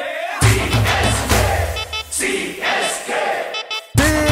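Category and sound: crowd, crowd cheering and chanting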